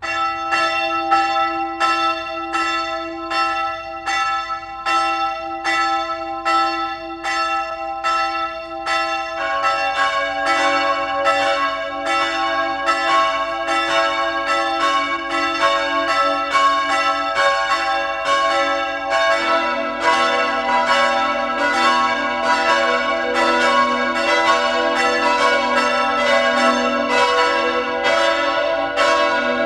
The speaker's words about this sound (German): Es ist 12 Uhr. Sie hören die Glocken der Pfarrkirche zum heiligen Franz von Assisi in Lannach in der Steiermark.